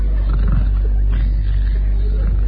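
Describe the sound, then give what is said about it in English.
A little lad lying on the ground with eyes closed imitates a sentry fast asleep, snoring with a loud, low, rumbling rasp that drones on steadily without a break, a throaty growl with no words spoken. “Lays on ground, close his eyes, does imitation cardboard snoring.”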